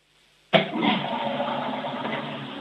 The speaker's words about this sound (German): Oh ja, ihr habt eine laute Klospülung.